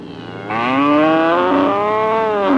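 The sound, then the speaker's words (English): A cow lying on its side in a field lets out one long, loud moo that starts abruptly and holds steady for about two seconds, with no other voices present. “In the field, the cow lying on its side begins to stir.”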